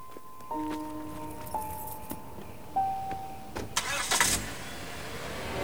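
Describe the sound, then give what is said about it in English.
A woman gets into her car by the roadside: the car's electronic chime sounds in a few short tones amid clicks and door noises, then the engine turns over and revs loudly before settling as she drives off. No one speaks. “As she breaks down, she runs across the road to her car, then drives off.”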